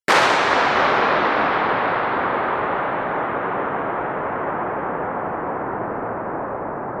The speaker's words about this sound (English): Wow, and that is a gunshot in the Inchindown underground fuel depot in Scotland, and that was an attempt to break the Guinness World Record for longest echo. Did it win? It did win, yes, it did. That's the same gun.